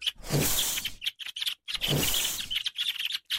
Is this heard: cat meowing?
no